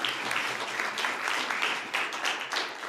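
A room full of people applauding steadily, a dense wash of many hands clapping at once, fairly close and sustained for a few seconds without anyone speaking.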